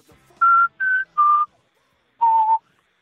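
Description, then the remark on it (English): An analog synthesizer plays a short whistle-like melody in a pop song: three quick, clear high notes, a brief pause, then one longer note that dips slightly at the end. Loud, with no talking. “That's an analog synthesizer.”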